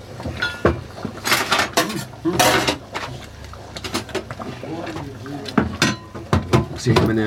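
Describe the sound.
A utensil stirs food in a 3-litre metal pot, scraping and knocking irregularly against it. Short clinks and scrapes come in bursts while people talk at times underneath.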